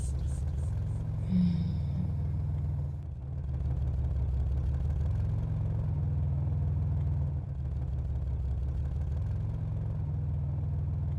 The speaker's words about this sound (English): The car stops so gently, you barely notice it stopped.